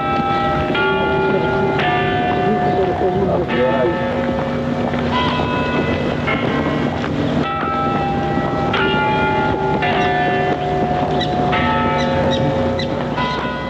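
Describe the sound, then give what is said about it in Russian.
The clock bells of the leaning Nevyansk Tower strike repeatedly at uneven intervals, each loud, ringing tone leaving long, overlapping metallic overtones, with steady wind noise rumbling underneath and no voices. “Бьют часы Невьянской башни.”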